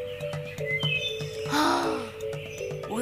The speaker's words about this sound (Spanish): Es más, sentémonos en el albergue, nos comemos la merienda y observamos y escuchamos las aves por un minuto.